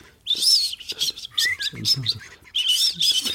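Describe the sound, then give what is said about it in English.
A voice imitates a car's turbo dump valve fluttering as a driver keeps lifting off the throttle: loud bursts of high, chirpy whistling that flutter on and off, sounding almost like a songbird, with a brief gap before a final burst. “it's a bit like the sort of overactive throttler with the dump valve that sounds like a sort of a pigeon or a songbird.”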